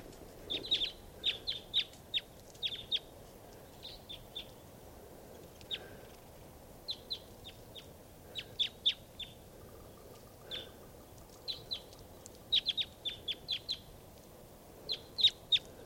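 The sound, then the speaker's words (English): Sharp, high chip-like calls from a big crossbill flock foraging on cones in the trees at a campsite come in clustered bursts, some brief rapid runs of several notes, over a steady low background hiss; no one speaks. “According to some crossbills right here in the trees at the campsite.”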